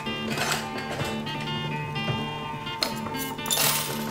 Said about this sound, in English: Dumping out a jar of change and other items, she picks up a set of keys and jogs into a kitchen.